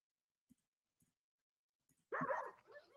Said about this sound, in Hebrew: וואלה, זה כלב, זה חטף, גנב, נכנס לבית לא שלו, עשה בלגן, לקח.